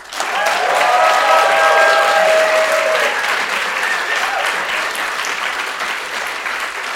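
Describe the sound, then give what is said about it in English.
An audience welcomes guest Paul Henley with sustained applause, a dense wash of clapping that swells quickly, holds steady for several seconds, then gradually thins and fades. A few faint cheers or whistles ride on top early on. “Let's give a big round of applause to Paul.”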